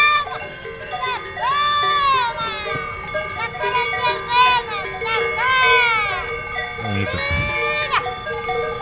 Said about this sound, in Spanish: Cambiamos de escenario, vamos a las brañas de Ensomiedo, cerca de la Pornacal. Y la vaquera llamando, sin ningún éxito, a sus vacas Gallarda y Rubia.